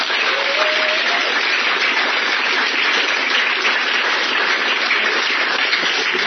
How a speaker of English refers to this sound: I just wanted to, again, recognize Left Turn and congratulate them on 5 years. I can't be early in 5 years. I've only been reading League 2, by the way. So, how about a round of applause for Left Turn?